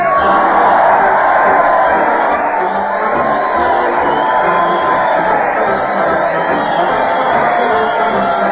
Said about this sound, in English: Listen to the crowd cheer Fred Allen as he leads his weekly parade to the old Town Hall.